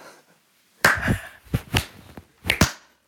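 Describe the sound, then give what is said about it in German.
A handful of sharp, crisp hand claps, unevenly spaced and some doubled, as a slow clap begins over otherwise quiet background. No one speaks. “So, das ist, ich würde jetzt gerne den Slow Clap starten.”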